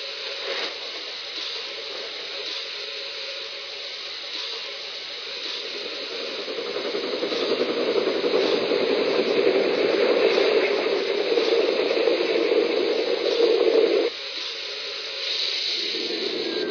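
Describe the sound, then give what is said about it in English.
A steady, loud hiss of escaping steam from a steam locomotive fills the scene, swelling stronger midway and cutting off abruptly near the end before resuming, with a low mechanical rumble beneath and no voices. “So I'll have to keep plenty of steam up for the grade.”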